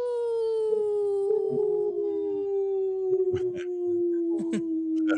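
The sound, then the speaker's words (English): A single long, wolf-like howl holds a steady tone for about five seconds, its pitch sliding slowly downward, with faint clicks and rustling scattered beneath it. “That was the best howl.”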